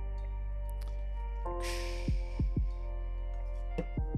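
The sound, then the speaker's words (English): Soft gulping of a sparkling kiwi guava Celsius energy drink: a brief fizzing hiss, then three quick swallows in a row and one more after a pause, with no talking. “First gulp, day's better.”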